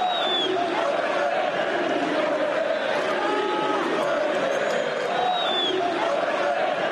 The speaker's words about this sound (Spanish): Atención, porque ayer se escucharon en el Camp Nou por parte del público, minoritario claro que sí, pero se escucharon estos gritos.